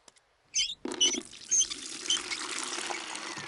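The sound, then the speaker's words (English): Water pours steadily into a bucket to make bubble mixture, starting with a few splashy knocks and settling into a continuous rushing stream, fairly loud, with no voices. “A bucket? Some soap? A tennis racket? What is Daddy Pig doing? First, I need some water.”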